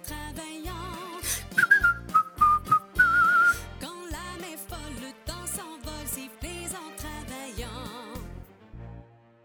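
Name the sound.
human whistling a tune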